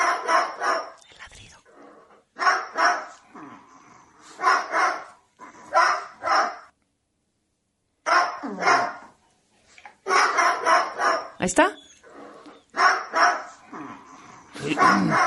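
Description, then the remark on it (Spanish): A parrot mimics a dog's barking in a run of repeated, yappy barks in bursts, with short pauses between groups and a brief question spoken partway through. “Lo está imitando. ¡Igualito! No es el perro, es el loro.”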